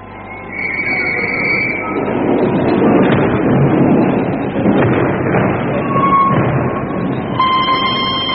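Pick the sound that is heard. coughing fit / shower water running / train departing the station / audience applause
train departing the station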